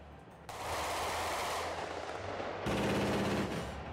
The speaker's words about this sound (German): Der Sky Ranger ist das neue Flugabwehrsystem der Bundeswehr. Mit 1000 Schuss pro Minute bekämpft er auch Drohnenschwärme.